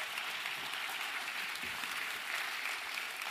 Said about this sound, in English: Oh, praise the Lord. God's good, amen? Come on, give him a big round of applause.